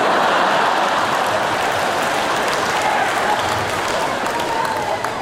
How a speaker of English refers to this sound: I don't understand what's happening. You're cheering, but she's over here. So why are you guys cheering?